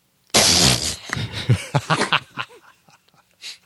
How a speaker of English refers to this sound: I'm sorry. That may have sounded like a snicker. That was it was a cough. My apologies.